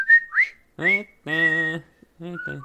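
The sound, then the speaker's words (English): Someone whistles a short, halting tune from a movie: a few bright sliding notes, broken up by hummed or voiced tones and brief pauses, fairly loud. “I wanted to do the whistling part, but I forgot it.”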